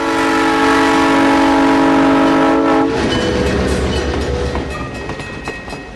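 A loud, sustained horn from the Monticello Railway Museum's 12:30 train, pulled by a 1950s-era diesel locomotive, blasts for about three seconds, then the low rumble and clatter of the train leaving Nelson's Crossing in rural Piatt County for downtown Monticello on a sunny Sunday afternoon, with no one speaking.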